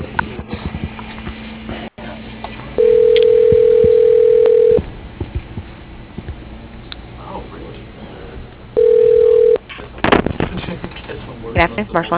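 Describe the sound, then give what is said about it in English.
A telephone line on a call into the Marshall Interiors phone tree, with two steady electronic tones, one about two seconds long and a shorter one later, over a noisy background of clicks, thumps and muffled sounds. “I kind of got lost in your phone tree there.”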